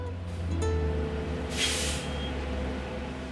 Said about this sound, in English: It's an unbearably hot summer morning and I'm waiting for her at a city bus stop, pacing nervously. Bus after bus comes by. People get off and head to a nearby park.